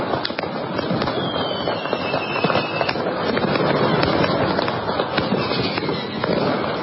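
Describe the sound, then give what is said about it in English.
Rapid, crackling fireworks bursts pop continuously over a loud, dense background roar, sharp bangs scattered irregularly throughout with no clear rhythm, amid the chaotic noise of street riots where fireworks and other projectiles were used against ambulance workers. “Yes, ambulance workers with fireworks and other projectiles.”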